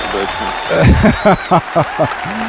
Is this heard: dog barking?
no